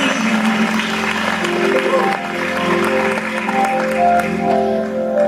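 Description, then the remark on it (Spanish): A crowd claps steadily for about five seconds, a dense, even patter that holds its loudness throughout, with sustained musical tones humming beneath it. “Un aplauso.”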